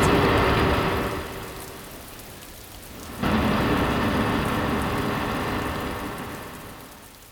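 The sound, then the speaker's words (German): On an oppressively hot day, steady heavy rain hisses throughout a violent thunderstorm while thunder rumbles loudly, fading away, then a second sudden crash swells up and rolls off slowly into the downpour. “Es ist drückend heiß, als ein heftiges Gewitter mit lauten Donnergrollen.”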